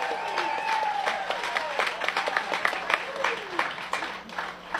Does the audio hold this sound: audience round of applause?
yes